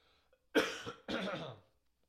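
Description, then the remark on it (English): Two forceful throat-clearing coughs in quick succession, the first sharp and the second longer and raspier, with quiet before and after. “So I have a cough in my throat. I want to get this out before I start.”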